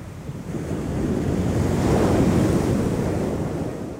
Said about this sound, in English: I listened to the sea, sighing like a woman behind the orange trees in her orchard.